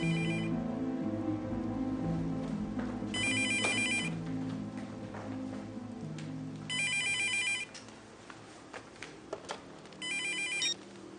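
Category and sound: signal or alarm, telephone ringing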